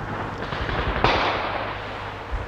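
A single sharp explosive crack from a Russian exploding bullet fired from a machine gun on the enemy side, bursting close by, loud and sudden, then fading into a steady low hum of background noise.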